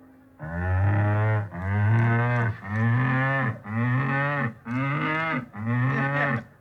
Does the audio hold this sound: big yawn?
no